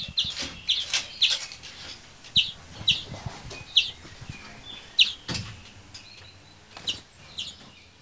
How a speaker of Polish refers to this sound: Dzwoniec jest młody, to piszczy. Jego jeszcze czasami trzeba dokarmić trochę.